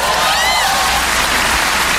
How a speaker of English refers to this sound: Bacon's the best. Even the frying of bacon sounds like applause. It's like, ah! Yay, bacon!